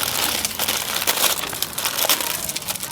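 Continuous crinkling of plastic packaging as a package is opened, a dense, bright rustle with sharp crackly bursts throughout, fairly loud and steady for the whole stretch with no voices.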